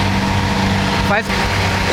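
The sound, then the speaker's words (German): A heavy pulling tractor drags a brake sled past, its engine droning loudly and steadily, a deep continuous rumble with a brief dip partway through and faint murmuring in the background. “So, da ist wieder einer vorbei. Gefahren mit dem Bremsschlitten und dann fährt immer noch ein Traktor hinterher.”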